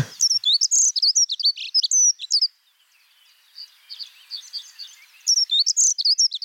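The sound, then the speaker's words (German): High, squeaky songbird notes in quick repeated bursts, like a creaking bicycle chain, with a fainter softer twittering stretch in the middle before the loud squeaky phrases return. “Also ja, viel weicher als beim Gierlitz, aber ich finde diese quietschende Fahrradkette oder diese Assoziation schon ganz hilfreich.”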